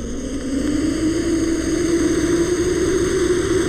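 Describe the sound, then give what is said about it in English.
A monitor lizard at the San Diego Zoo lets out one long, steady hiss lasting several seconds, a breathy rushing noise with a low, throaty undertone that holds at an even loudness throughout. “As does the monitor lizard.”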